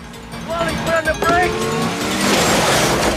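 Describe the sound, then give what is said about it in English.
A police squad car speeds past into a warehouse, its engine whining and rising in pitch before giving way to a loud, rushing roar that fills the last couple of seconds. “The squad car speeds into a warehouse.”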